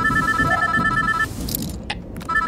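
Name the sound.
telephone ringing sound effect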